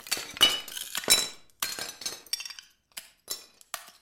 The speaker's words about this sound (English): When he's not shattering old china